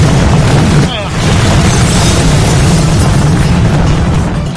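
A helicopter crashing into a tree: a loud, heavy rumbling roar with crackling, broken by a short dip early on, then a continuous harsh, booming noise until the end.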